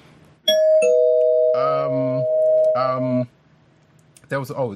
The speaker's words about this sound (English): Oh, I'll hit the spoiler bell.